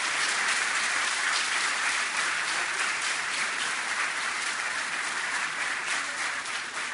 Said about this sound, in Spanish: Me gustaría un aplauso en este momento además para lo que ha sido la gestión de